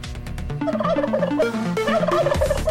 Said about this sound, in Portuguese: Rapaz, olha o peru aí, hein? Peru passando aí mais uma vez, tá anotando?